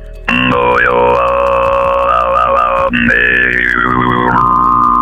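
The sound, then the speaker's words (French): A single voice sings overtones over the telephone, the voice diffracted so that several sounds are heard at once: a low drone held while a bright whistling pitch glides and shifts above it. There is a brief break near the middle, then it continues steadily to the end. “on arrive à diffracter la voix. Et ça fait qu'à l'oreille, bah, on entend plusieurs sons.”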